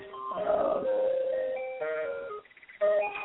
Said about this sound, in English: Sounds like the ice cream man. It does. It's our health phone. It rings, but it's generally only marketers, so I can usually just, you know, ignore it.